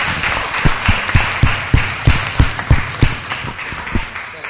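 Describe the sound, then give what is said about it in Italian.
Steady audience applause for a woman's sensitivity and commitment, a dense wash of many hands clapping with a few louder, rhythmic claps standing out, holding at an even level throughout. “Io farei un applauso a questa signora per la sua sensibilità e per il suo impegno.”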